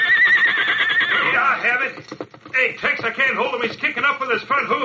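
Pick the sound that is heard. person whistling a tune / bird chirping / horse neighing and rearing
horse neighing and rearing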